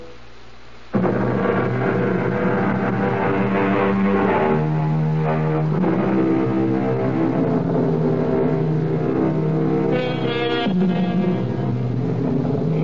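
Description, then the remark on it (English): The engines of a four-engine jet airliner flying at 31,000 feet roar loudly and steadily after a brief quiet opening, a dense rumble layered with whining tones that shift in pitch, with no voices. “In the cockpit of a four-engine jet monster 31,000 feet above the ground, alone.”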